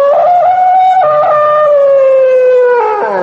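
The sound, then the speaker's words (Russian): A wild dog at the Munich zoo howls in one long, loud, continuous wail, its pitch wavering and slowly sliding downward before dipping at the end. No one speaks. “Так я добился свидания с дикой собакой.”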